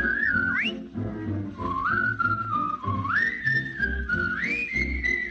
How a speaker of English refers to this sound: Give a little whistle. Give a little whistle. Not just a little squeak. Pucker up and blow.